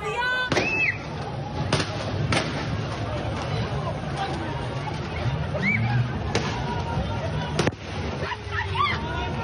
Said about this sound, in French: Pourtant, on a bien vu sur ces images, sur les premières images en particulier, sur les motos des policiers tirés sur des manifestants, vous les entendez aussi.